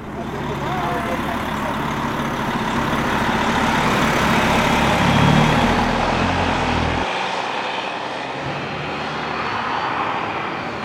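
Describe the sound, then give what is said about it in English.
A steady, loud bus engine drone with broad rumbling noise as the bus crosses a high bridge over the bay at the tip of Lake Superior into Wisconsin in the evening; the low rumble drops off partway through while the roar continues. “The bus goes over the high bridge, crossing the bay at the tip of Lake Superior into Wisconsin as the evening falls.”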